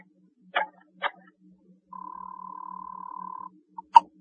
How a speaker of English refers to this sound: At the tone, the time will be 6:21 and 1/2. 6:21 and 1/2.